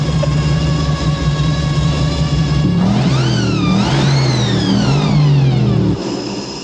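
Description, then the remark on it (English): A supercharged V8 muscle car engine with a blower, making 600 horsepower through the wheels, idles loudly with a steady whine, then revs up sharply around the midpoint, the pitch climbing and falling before dropping back to a lower rumble near the end. “600 horsepower through the wheel. With the blower.”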